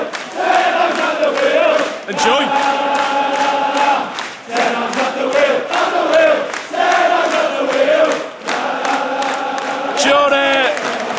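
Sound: football stadium crowd chanting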